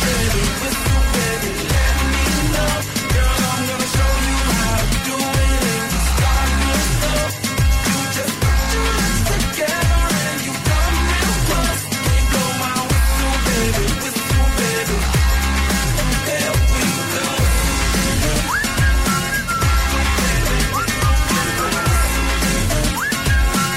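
A pop rap song plays on the radio station Today FM, loud and steady, with a punchy repeating beat, heavy bass and bright layered production filling the whole stretch without a break.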